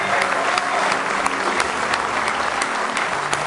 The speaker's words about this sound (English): Say praise the Lord. Go ahead and give him a good hand clap this morning.